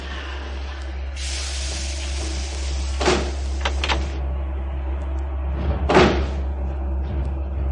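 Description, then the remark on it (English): A person slides open a train carriage's sliding door to go in, against a steady low rumble: a hissing whoosh, a few sharp clunks and rattles, then another solid thump as it slides home, with no talking. “She was in a carriage by herself, and she showed no particular surprise when I slid open the door and went in.”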